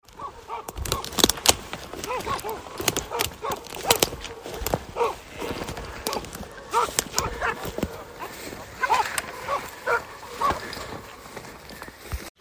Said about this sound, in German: So, das erste Treiben ist vorbei. Aus dem ersten Hundegeläut hat sich nichts weiter ergeben. Kurze Zeit später schlugen die Hunde dann aber nochmal an, in einer anderen Ecke.